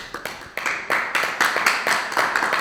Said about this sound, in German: Das ist ein Applaus wert, würde ich sagen.